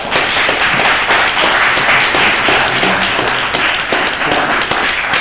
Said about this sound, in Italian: Era un applauso onesto. È un applauso onesto, bravo.